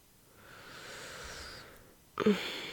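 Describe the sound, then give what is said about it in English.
Slow, airy paced breathing, in for a count of four and out for four: a long, soft, hissing breath lasting over a second, then a brief pause and a sharper, louder breath starting. No talking. “Remember, an in for four, and an out for four.”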